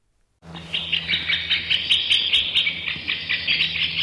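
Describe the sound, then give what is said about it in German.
A woodpecker call played by a biologist through a loudspeaker in the middle of a forest in Oberrohrdorf, Aargau: a rapid, steady series of shrill, chattering notes repeating for several seconds, clear over a faint low hum, with no talking. “Das ist die Biologin Conny Thiel mit ihrem Lautsprecher. Sie steht mitten im Wald im aargauischen Oberrohrdorf und lässt es nach Spechtart krakehlen.”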